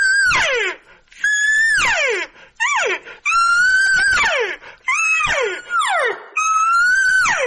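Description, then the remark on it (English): A human voice imitates a lost calf's bawl: six or so loud, drawn-out calls in a rapid series, each a strained, nasal tone that ends in a downward, wailing slide. “Like if I am doing a lost cow, lost calf, right?”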